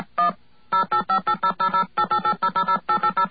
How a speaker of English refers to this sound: Let me dial into this number here, and you will see for yourself that all you have to do is push a button. Push a button. Now, the phone company is not creating these tones.